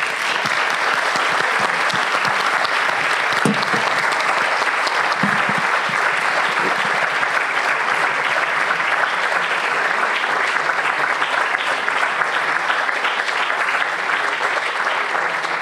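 Sustained audience applause for an author at a book event hosted by Casa Asia and the Ateneo, a dense, steady wash of many hands clapping at an even loudness for the whole stretch, with no voices standing out above it.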